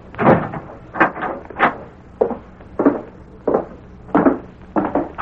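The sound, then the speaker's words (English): A door is shut and locked, heard as a string of about ten knocking, rattling thuds and latch clicks at an uneven pace, moderately loud, with no voices. “I'll lock the door.”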